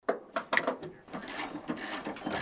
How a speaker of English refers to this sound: The click of wrenches mixes with the chirp of birds and buzz of mosquitoes in a small sun-seared clearing in the willows along the Tanana River.